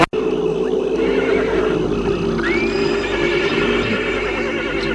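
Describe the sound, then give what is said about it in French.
A horse in a marsh whinnies loudly, a sustained, quavering neigh rising and falling over several seconds, with no one speaking. “L'autre s'approche, prend la bride au cheval et Franck voit Luc.”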